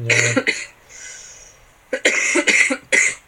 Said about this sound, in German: Der Husten ist wirklich immer noch da. Ja. Ja, ich glaube, mein Körper hat jetzt richtig gemerkt, das ist Ende Saison und kurz runtergefahren.